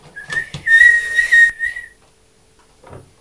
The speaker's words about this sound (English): Well, I think I'm going to miss it, don't you? No, but it was just another train's whistle.